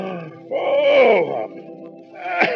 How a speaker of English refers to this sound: But waiting made the hare sleepy. He yawned.